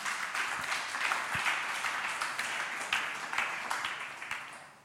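A crowd applauds steadily for about five seconds, a dense wash of many hands clapping at even volume with scattered sharper claps standing out, and no voices on top.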